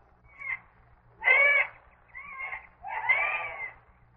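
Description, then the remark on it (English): A jay calls harshly four times in quick, uneven succession, the rasping cries loud, with the first one shorter and fainter than the rest. “That's a jay. Not my kind of bird. That's the only singing he can do.”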